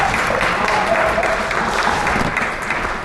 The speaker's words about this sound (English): Yeah, that gets a round of applause. Flying. That's a quite a commute.